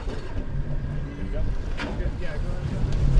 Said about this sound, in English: guns it, pushing the skiff at an angle into the current so the 300-foot net drifts back perpendicular to shore.